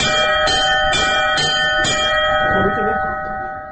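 church bell being rung

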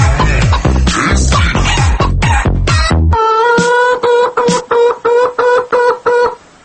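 chicken clucking

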